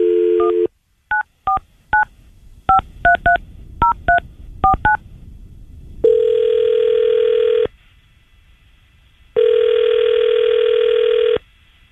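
A brief dial tone, then about a dozen quick touch-tone beeps of varying pitch as a number is dialed, followed by two long, steady ringback tones with a pause between them. No voices.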